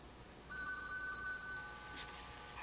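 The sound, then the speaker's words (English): A telephone rings steadily with a bright electronic warble, sustained for a couple of seconds at moderate volume against a quiet background, with no voices present. “Go answer the phone.”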